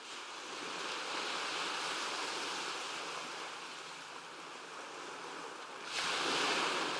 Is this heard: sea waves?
yes